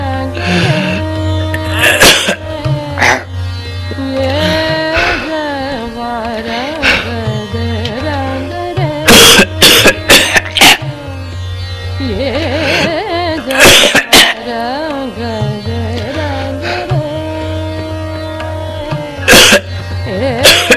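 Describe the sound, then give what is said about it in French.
A person retches and vomits into a toilet bowl, heaving several times with strained, groaning sounds and sudden loud bursts, fairly loud. “vomit dans la cuvette.”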